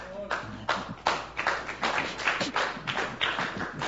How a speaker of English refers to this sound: Yeah, listen, when I'm preaching, I really don't need clapping. So if you decide to clap, clap properly. Do you understand? Yeah. If you don't clap, then you just keep quiet and then I just continue my preaching.